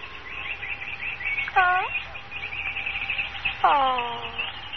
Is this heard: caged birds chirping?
yes